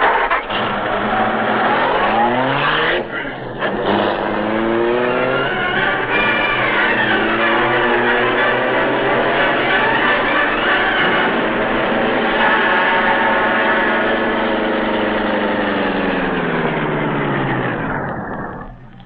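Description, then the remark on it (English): A car engine runs loudly and steadily during a pursuit, its pitch rising and falling as it revs and changes speed, continuous for the whole stretch with no voices. “He's going toward a car in the driveway.”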